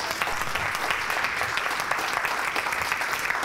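An audience claps steadily, a dense, even wash of many hands that stays loud throughout with no voices on top.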